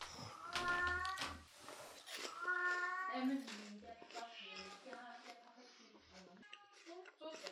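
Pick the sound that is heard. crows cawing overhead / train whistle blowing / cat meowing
cat meowing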